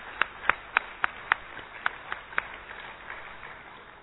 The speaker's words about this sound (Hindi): तो मैं ब्रह्म कुमारीज को मेरी तरफ से बहुत बहुत आभार प्रकट करता हूं। आपसे मैं निवेदन करता हूं कि सब लोग तालियां बजा के इस संस्थान का अभिनंदन करें।